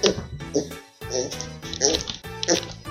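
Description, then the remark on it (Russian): A child's voice makes a series of snorting, grunting oink sounds in imitation of a pig, several short bursts in a loose rhythm, fairly loud. “А поросенок как хрюкает?”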